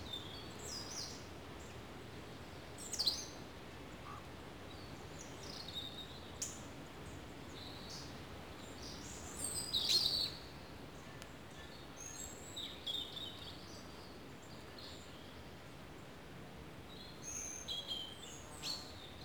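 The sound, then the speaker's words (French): A small bird marking its territory twitters in short, high chirps scattered over a steady outdoor hiss, with a couple of brighter bursts; the calls are fairly faint, with no voices. “Petit gazouillis, petit oiseau de mes anges.”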